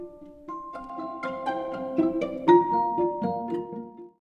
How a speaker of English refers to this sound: Anytime that you hear the chime, you can go ahead and flip the page if you would like to follow along in person.